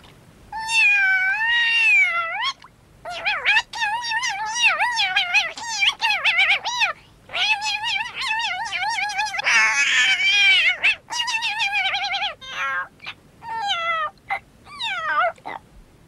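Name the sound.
upset cat meowing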